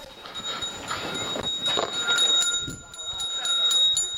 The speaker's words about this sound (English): This man is ringing a bell for prayer.